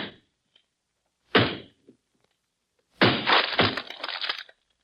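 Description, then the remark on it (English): A heavy wooden door is broken down: a sharp splintering crack, a brief pause, then a loud, sustained crunch of breaking, crashing wood. “Well, if somebody needed help badly enough to spell it out in cordwood, they needed badly enough for me to break down this door.”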